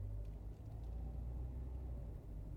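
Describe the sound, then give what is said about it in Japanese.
A steady, low-frequency rumble fills the inside of a moving car on a road where heavy traffic has thinned out, constant and fairly loud, with road and engine drone and no voices. “私はね、常に両手ハンドルだから手はつなげないよ。”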